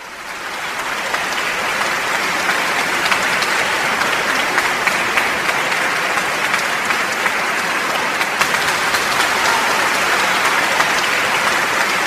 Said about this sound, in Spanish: Y por las noches pues contribuíamos también al aplauso de todo el pueblo con cosas como esta.